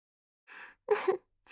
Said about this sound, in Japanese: おっきなあくび。たっぷり出した日はいっつもぐっすり寝ちゃうんだから。